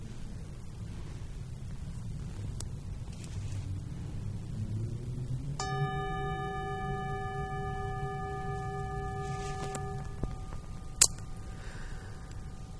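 A single bell is struck once in a hall during a remembrance of creatures that have passed, and rings out with a clear, sustained tone that slowly fades over several seconds, above a steady low rumble, followed by a brief sharp click.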